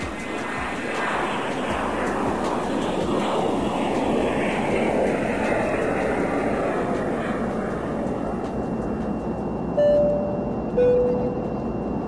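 A steady, broad roar of an airplane engine in flight fills the whole clip, with a constant drone and two brief high tones chiming near the end.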